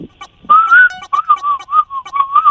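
A person whistles a short tune as a way of communicating a message, clear and fairly loud, with wavering, sliding notes broken into quick phrases. No one speaks; only a brief rustle comes before the whistling starts.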